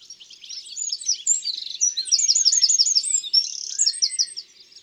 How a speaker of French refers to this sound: un troglodyte vient de se percher dans le peuplier. C'est ce petit oiseau brun qui a souvent la queue relevée.